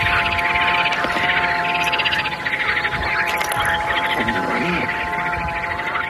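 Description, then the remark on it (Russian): A great crested grebe calls in a steady run of harsh, rattling, croak-like notes that pulse rhythmically for several seconds, with a faint steady hum beneath. “Чомга или большая поганка. Сейчас вы слышите ее голос.”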